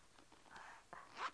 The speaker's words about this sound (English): Yeah, that's the zipper. It opens and closes. Open and closed. Can you see? Open, close. That's the zipper. Zippers open things. Open, see? And then when you zip, closed.